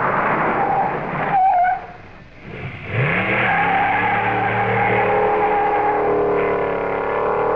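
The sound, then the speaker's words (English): A car engine runs, drops to a brief lull as the car stops, then revs back up and pulls away with a rising whine, steady and loud with no talking. “Your car. There are a lot of ways it can waste gas and money. Stopping and starting too much.”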